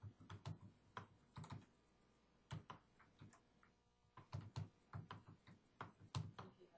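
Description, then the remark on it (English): Crisp computer keyboard typing in irregular bursts of rapid clicks, with brief pauses between flurries of keystrokes and no voices present. “Can't see what I'm typing.”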